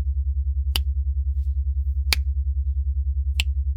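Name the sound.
finger snapping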